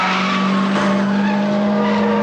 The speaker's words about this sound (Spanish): Dile al taxista que acelere. Oye, tío, ¿quieres apretar un poco? Mire, señora, yo conduzco lo más rápido que puedo. Sam pisa el acelerador y el taxi se embala.